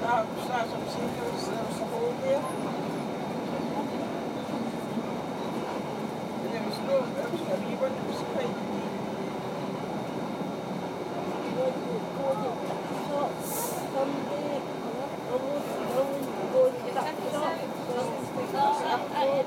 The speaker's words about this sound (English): We are now approaching Mill Grove. Change here for stations to Springburn. Please mind the gap when alighting from this train.